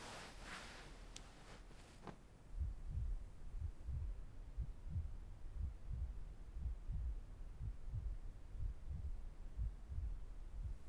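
A fast heartbeat thumps steadily in low, muffled pulses, as if heard against a chest, following a brief rustle at the start.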